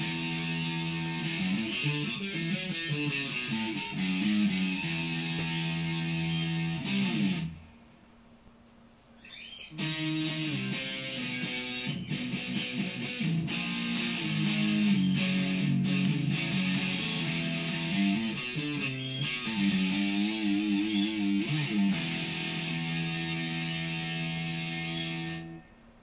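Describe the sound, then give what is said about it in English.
A heavily distorted electric guitar, a Variax on its Les Paul setting played through a Line 6 Aggro amplifier, plays loud, buzzy sustained chords and riffs on its own, pausing briefly for about two seconds before launching back in and continuing steadily to the end. “And this morning I've been working on creating a distortion guitar tone, and I think I've got something.”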